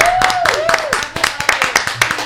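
An audience applauds musicians with steady, dense, loud clapping made of many overlapping sharp hand claps, while a brief wavering tone, like a cheer or whistle, glides over the start.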